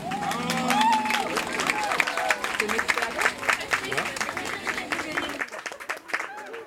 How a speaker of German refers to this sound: Es war viel Aufwand, das Regenwetter ist uns heute nicht ganz hart, trotzdem voll super, dass ihr alle hier seid, dass ihr Tanzenden hier seid und auch ihr, liebe Zuschauerinnen, einen herzlichen Applaus bitte für die Tänzerinnen.